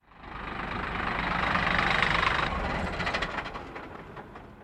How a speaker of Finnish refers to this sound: Nyt sammutamme taas bussin dieselin ja siirrymme autosta magneettimäen juurelle.